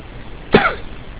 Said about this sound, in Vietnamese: Nếu mà lúc mà quý vị nghe được liên tục thì lúc bây giờ chúng tôi đã bắt đầu bị ho.